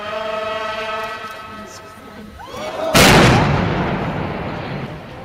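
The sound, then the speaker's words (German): A loud, sudden blast as the roughly 120-metre-high AfE tower of Goethe University in Frankfurt is demolished with explosives on 2 February: a sharp boom followed by a long, roaring rumble as the structure comes down, rising out of a steady background of tones and murmur. “Hier in Frankfurt, am 2. Februar, wurde der knapp 120 Meter hohe AfE-Turm der Goethe-Uni gesprengt.”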